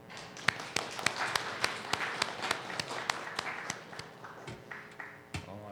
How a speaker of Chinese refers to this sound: 我哋為佢做個鼓掌好嘛？